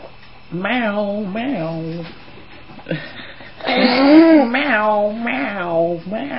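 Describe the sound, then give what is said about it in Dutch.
A cat named Roef gives a series of drawn-out, wavering meows, about five or six in a row, loud and tonal with rising and falling pitch, separated by short pauses. “Nou, Roef kan heel erg goed miauwen, hè. Hoor hem bij.”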